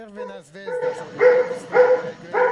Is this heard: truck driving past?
no